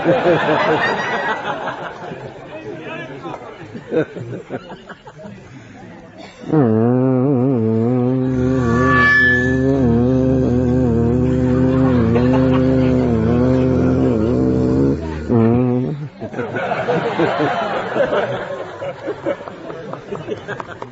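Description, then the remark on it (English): A voice imitates buzzing bees, as one of the animals of the jungle, with a steady, low, droning hum that lasts about nine seconds, wavering slightly in pitch. Chatter and soft laughter come before and after it. “They would buzz like bees.”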